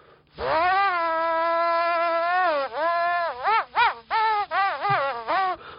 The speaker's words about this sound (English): Kind of sounds like a duck. Make your own duck instrument. But if I don't change the position of the straw, you'll kind of hear it's a very specific frequency.